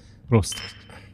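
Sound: beer glasses clinking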